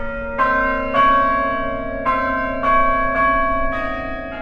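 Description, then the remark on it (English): Bells ring out in a steady sequence of about seven strikes, each overlapping the lingering hum of the last, creating a rich, resonant peal with no voices. “So we're in a world in which these chimes sound out at a particular point in the day and have an impact on the people.”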